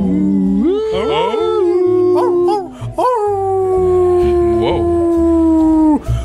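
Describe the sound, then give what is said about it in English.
Dogs howl in long, sustained wavering tones, one drawn-out howl rising and holding before a second long howl follows, loud with a low rhythmic backing underneath, at a cemetery on Cape Cod. “Are there dogs there too?”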